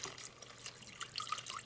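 Water is poured into an Instant Pot pressure cooker holding vegetables and chicken bones, a steady splashing stream with a few brighter gurgles toward the end, with no voices.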